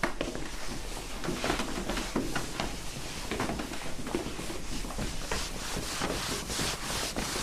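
Several people shuffle and scrape their feet across a floor in a steady, dense rustling that keeps going for several seconds, moderately loud, with no talking.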